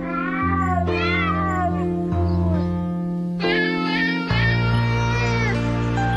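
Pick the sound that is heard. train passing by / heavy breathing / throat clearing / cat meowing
cat meowing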